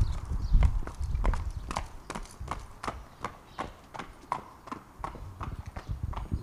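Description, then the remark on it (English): Steady, evenly spaced hoofbeats clop on a hard surface as a horse trots along during a trot-up, a brisk two-beat rhythm repeating for several seconds with low rumbling background noise. “And I think it's fair to say this horse is doing pretty well through the so far.”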